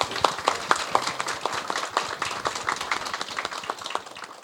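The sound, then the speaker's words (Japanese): A crowd at an LA Holdings IR seminar applauds steadily to welcome the company's president, many hands clapping in a dense, continuous patter at moderate volume throughout, with no one speaking over it. “どうぞ皆様大きな拍手でお迎えください。”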